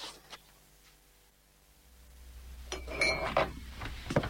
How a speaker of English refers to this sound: Just loading the dishwasher.